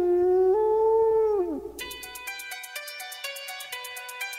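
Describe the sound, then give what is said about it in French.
A wolf lets out one long, wavering howl that rises and then slides down, followed by a quick run of pulsing, ringing tones repeating steadily to the end. “Leurs longs hurlements nocturnes, comme de longues plaintes d'agonie, ne résonnent-ils pas comme des oraisons funèbres?”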